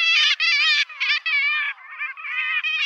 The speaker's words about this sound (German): Es ist die Dreizehenmöwe. Eine sehr schöne, mittelgroße Möwe. Die Jungvögel haben auch so ein schwarzes W auf dem Rücken. Und zum Abschluss spielen wir euch den Sound nochmal ein.